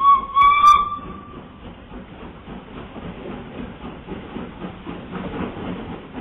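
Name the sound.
steam locomotive whistle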